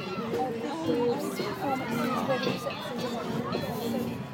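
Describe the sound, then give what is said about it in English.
A steady wash of crowd babble at an outdoor fete, many overlapping voices chattering at a constant, moderate level with no single speaker standing out. “Calling the ambience of the fate.”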